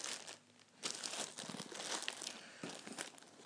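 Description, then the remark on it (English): Hands rummage through a crinkly plastic food bag, searching for water bottles while packing a rucksack, producing continuous crackling and rustling with irregular bursts of louder crunching, no voices present. “Onto the water from the food bag. Somewhere in here.”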